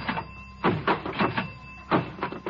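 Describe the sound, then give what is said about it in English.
A diving board springs repeatedly as it is being tested, a series of loud, rhythmic creaking thumps and rattles, about six bounces in quick succession with no voices. “I'm testing the diving board!”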